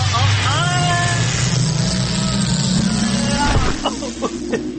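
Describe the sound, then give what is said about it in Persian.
A whirring sci-fi time-travel effect: gliding electronic tones over a loud, steady low rumble, which drops away near the end into a few sharp clicks and knocks. “خب بریم ببینم امروز این ماشین زمان چه بلایی میخواد سر ما در بیاره. برو بریم.”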